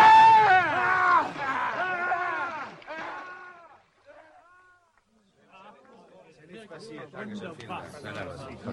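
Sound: people screaming loudly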